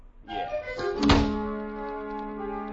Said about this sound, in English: Would you mind closing the D double... Door!